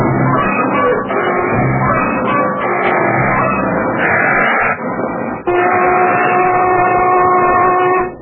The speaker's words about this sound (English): There's a lunch whistle, Basco. Okay, boys, 6:30.